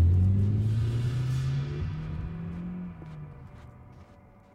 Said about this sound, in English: We got out of the car and Jack walked over to an empty space. The limo quickly sped off.